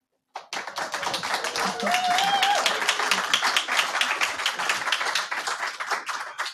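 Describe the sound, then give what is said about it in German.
Sustained live, not pre-recorded, applause from an audience in the auditorium of the Volkshochschule Reutlingen, a dense crackle of many hands clapping at steady loudness for several seconds, with a brief whistle rising above it partway through. “Und an unsere Zuhörerinnen, nein, der Applaus ist nicht eingespielt.”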